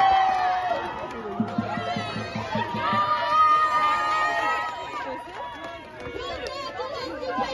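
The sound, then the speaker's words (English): A dense crowd of protesters at UCLA shouts and chatters loudly and continuously, with excited raised voices overlapping throughout and a burst of rhythmic thumping near the start, as they beat a piñata of Israeli Prime Minister Benjamin Netanyahu with a stick. “And screaming at the top of their lungs.”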